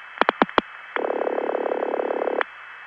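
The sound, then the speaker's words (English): Four quick clicks, then a harsh, buzzy ring tone from a non-Bell-system exchange in Regina, reached through a step tandem, rattles steadily for about a second and a half before cutting off, over a faint constant high whine on the line. “Now there's a change from all those bell system type rings that you would hear in cities.”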